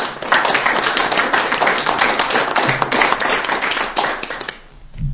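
A round of applause from a group, dense overlapping clapping that holds steady and loud for about four seconds before quickly fading out.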